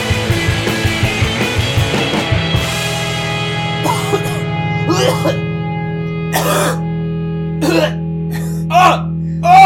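A run of short, rough coughs and throat-clearing bursts, about six, spaced irregularly over a steady low droning tone that follows a few seconds of deep, choppy vocal sounds.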